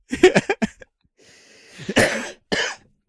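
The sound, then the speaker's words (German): A loud fit of coughing set off by laughing: a quick run of four or five short barking coughs, a wheezy strained breath, then two harsh heavy coughs and a final one. “Der Hustenreiz sonst ausgelöst wird.”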